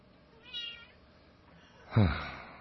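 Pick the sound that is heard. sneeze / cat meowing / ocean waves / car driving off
cat meowing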